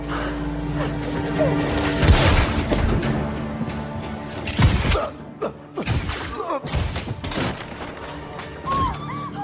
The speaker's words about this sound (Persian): چه صافه بهم شلیک کردی؟